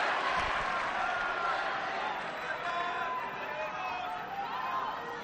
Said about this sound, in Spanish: Grita la grada, intentan animar a Carlitos.